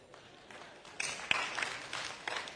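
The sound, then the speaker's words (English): An audience breaks into clapping, starting faintly and swelling after a second into a dense, steady patter of many hands that carries on to the end without any voices over it. “That would be an appropriate place to clap.”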